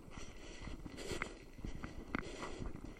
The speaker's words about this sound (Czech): Kamínky pod nohama křupou.